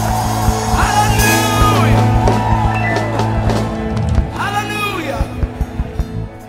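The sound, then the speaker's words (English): A church audience shouts and whoops together in a loud, sustained roar of many voices, shouting praise to the Lord with a shout of victory, with rising cheers and scattered sharp hand claps breaking through near the end. “Shout to the Lord with a shout of victory.”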